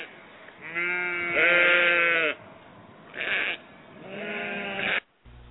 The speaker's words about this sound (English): Sound like he got some sheep together too.